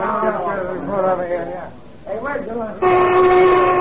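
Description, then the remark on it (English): People talk for a few seconds, then a loud factory lunch whistle cuts in with a steady, sustained tone that holds through the end. “There's a lunch whistle”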